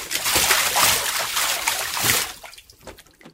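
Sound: water splashing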